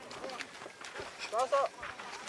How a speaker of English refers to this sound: After a long, hot day, they seem to be even more cranky than ever. Omar says there is nothing to worry about. Camels, like cars and trucks, are supposed to make noise.